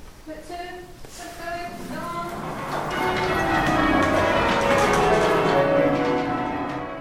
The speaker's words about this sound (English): in the bell ringing chamber at St Mary Redcliffe.